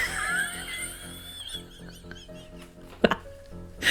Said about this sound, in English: I just hit my head.